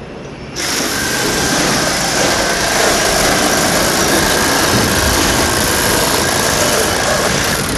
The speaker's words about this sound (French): Et ouh là là, alors là, ça c'est une scie. C'est mieux? Ah bah oui, parce qu'on a moins mal au rein.